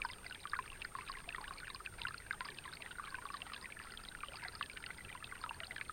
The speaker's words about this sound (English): A calm, clear pond. Ripples in the water of the pond.